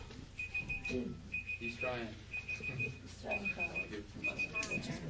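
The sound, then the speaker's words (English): A two-minute speaking timer alarm beeps in rapid bursts, five clusters of quick high-pitched pulses repeating steadily, while people talk over it. “just turn it off. Brenda has her timer going here”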